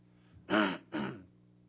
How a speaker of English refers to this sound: apologize for my coughing again.